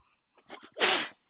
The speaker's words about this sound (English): Bless you.